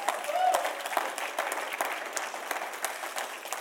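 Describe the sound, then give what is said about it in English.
An audience claps steadily in honor of the Holy Spirit, a dense patter of many hands forming continuous applause that holds at an even level throughout, with a brief voice-like tone rising near the start. “I know the Holy Spirit deserves a hand clap, I think,”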